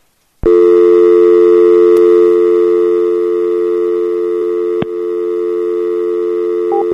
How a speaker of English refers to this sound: Aw. She picked back up. I hit the dial tone real quick, but not quick enough, apparently. But then she just hung up anyway.